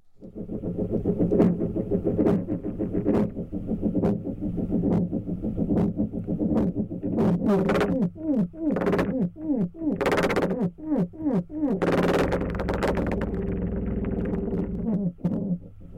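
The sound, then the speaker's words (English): A spider taps all eight of its feet and waves its arms, drumming a steady series of sharp thumps over a low rumbling drone. The taps quicken into rapid bursts midway, then thin out to occasional beats. “That rhythmic thumping is being made by a spider.”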